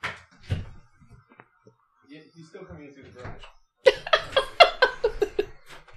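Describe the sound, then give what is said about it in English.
A door handle rattles briefly as someone tries a locked door, then things go quiet before a burst of rhythmic laughter and voices takes over. “The door's still locked. The door is locked.”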